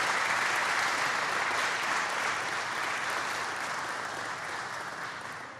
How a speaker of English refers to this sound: Let's give the governor another great round of applause.